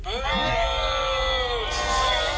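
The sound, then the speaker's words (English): A canned crowd-booing sound effect from a soundboard device: many voices groan a long, sustained, slightly falling 'boo' together, loud, with a brief burst of hissy noise near the end. “Now you've heard all the sound effects this thing does. It's got an applause, crickets, rimshot, and boo.”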